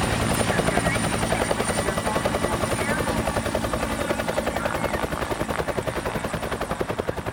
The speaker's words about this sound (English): All right, let's get him in the chopper.